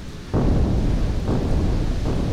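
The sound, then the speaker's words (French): A loud thunderclap bursts in suddenly during rain and keeps rumbling, with deep rolling swells returning twice like echoes. No voices are present. “D'un coup de tonnerre éclate, avec un écho.”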